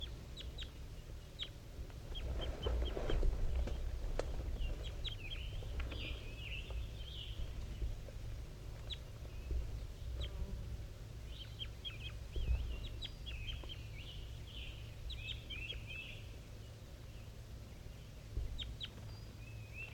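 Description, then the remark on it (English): A wild bird and a tagged bird numbered 5-3 trade short, chirping calls back and forth throughout, in quick bursts, over a steady low rumble of background noise. “Wild bird and 5-3 still calling back and forth.”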